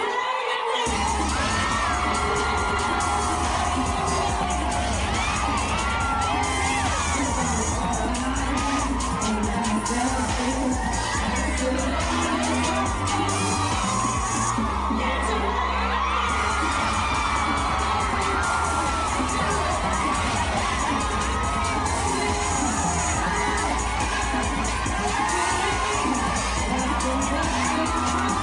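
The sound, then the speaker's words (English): A room full of women watching a man strip and dance scream and cheer in sustained, shrill excitement, whoops and shrieks overlapping continuously with loud music thumping underneath, dense throughout. “I thought that was a really lovely use of editing to watch her reactions as we're watching him dance, and also watching the other women in the room scream like banshees with excitement.”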